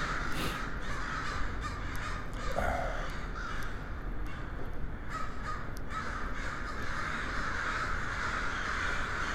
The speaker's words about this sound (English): There's the crows, of course. And their morning congress here.